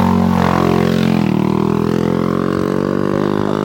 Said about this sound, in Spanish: Pero bueno, un motorista pasa por donde estábamos andando nosotros. Es que se ve que esto es una carretera, yo no lo sabía.